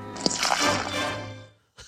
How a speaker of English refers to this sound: So in that clip, you hear the pouring. He's pouring a cup of Gatorade, and then he says he has a drinking problem and just splashes the cup all over his face.